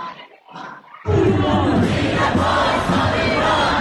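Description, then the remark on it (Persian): A large crowd of marchers in London shouts slogans in unison, such as "Democracy for Iran" and "Death to the dictator", a loud, sustained roar of many voices that bursts in after a second of quieter murmuring and keeps going without pause. “اینجا در لندن شرکت کنندگان در این راهپیمایی فریاد می‌زنند: دموکراسی برای ایران، آخوندها باید از ایران بروند.”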